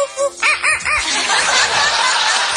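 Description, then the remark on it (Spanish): An African grey parrot imitates animal calls on request: a short run of rising-and-falling hooting notes, then a loud, harsh, sustained screech imitating a chimpanzee, with a rooster-like crow quality throughout. “How about a rooster? How about a chimpanzee?”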